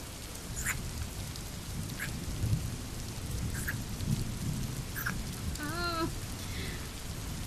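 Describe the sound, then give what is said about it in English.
Steady rain hisses throughout over a deep, continuous thunder rumble, with a few brief chirps near the end. No one speaks. “It is still so disappointing how awful it is kissing in the rain.”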